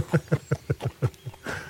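A quick, even run of horse hooves clip-clopping, about eight fairly loud beats in steady rhythm, followed by a brief wash of noise as the hoofbeats fade.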